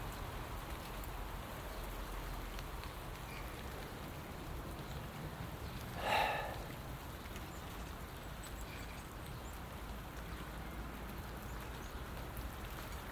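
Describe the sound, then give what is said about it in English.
Steady rain patters down continuously in the background, a soft even hiss throughout, while small birds flit about in it; a brief brighter chirp-like sound rises out of it around the middle. “The wee birdies are still flitting about, even though it's raining, doesn't make any difference to them.”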